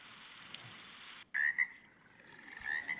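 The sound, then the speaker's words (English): Water frogs croak in loud, buzzing bursts against a steady chorus of frogs, with a brief drop in the background before the calls surge back, insistent. “Water frogs, right?”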